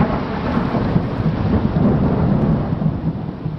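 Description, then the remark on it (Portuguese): A deep, sustained thunder rumble rolls through a storm, loud and continuous, with a steady hiss of rain underneath and no voices. “Mas o que fazer ou evitar quando se presencia ou escuta um barulho característico de raios e trovões?”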